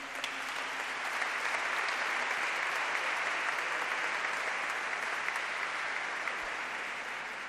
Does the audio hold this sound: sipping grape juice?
no